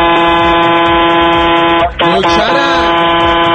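Two long, loud blasts of a semi-trailer truck's air horn, the first held for nearly two seconds, then a brief break before the second blares on, overpowering.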